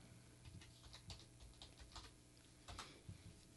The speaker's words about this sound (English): And the typing.